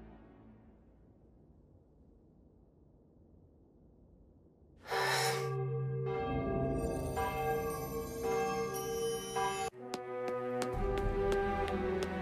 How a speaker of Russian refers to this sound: Звон. К башне быстрее!